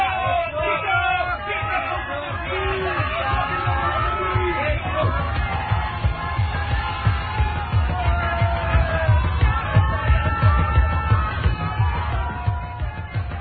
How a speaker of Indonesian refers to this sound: Prajurit-prajurit Lamajang sambil mengacung-acungkan senjatanya berteriak nyaring menyambut perkataan pemimpinnya.